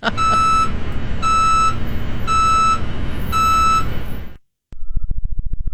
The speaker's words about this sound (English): Here's what a truck backing up would sound like on Mars.